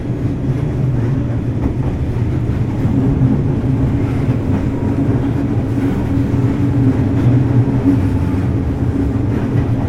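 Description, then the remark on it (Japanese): An Odakyu Line express commuter train bound for Odawara, departed from Shinjuku, runs steadily along the rails, a loud, continuous low rumble and droning hum, with no voices and no breaks for the whole stretch. “本日は唐木田で車両の確認を行いましたため、ただいまこの電車は新宿を9分ほど遅れて発車しております。”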